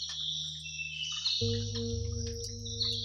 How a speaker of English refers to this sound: The hot, hot sun. Insects. Grandma says they are always loud when it is hot.